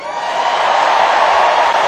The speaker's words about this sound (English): Hello, Milwaukee! Let me hear you cheer if you support Israel.